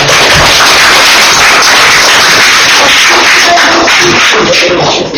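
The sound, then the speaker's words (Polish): Dense, loud applause from a crowd at a session of the Stronie Śląskie commune council, right after a draft resolution is passed: a continuous crackle of many hands clapping at once that holds steady for several seconds before tapering slightly at the end. “Brawo, brawo.”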